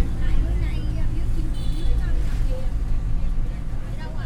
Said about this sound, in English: They were inside the bus to school.